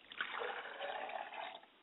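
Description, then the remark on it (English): Liquid libations are poured onto the ground in a steady splashing trickle for about a second and a half, then stop; fairly soft, with no voices over it. “I pour libations to the south, and I say, Ashe.”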